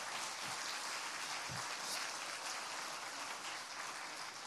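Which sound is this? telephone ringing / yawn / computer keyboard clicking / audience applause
audience applause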